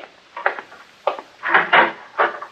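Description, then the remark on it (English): A door is opened with a handful of uneven wooden rattles and clunks, about five short bursts in a row, with no voices over them. “Well, good way to find out is to open the door.”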